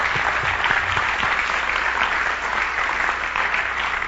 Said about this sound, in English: Give him a big clap offering. Amen.